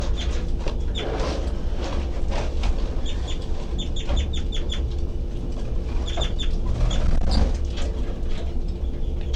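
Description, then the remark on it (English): Baby birds give high-pitched, thin C calls in quick bursts and short clusters, repeating throughout over a steady low rumbling background, with no talking. “Doing the high-pitched C call stuff. Start going again. Baby birds.”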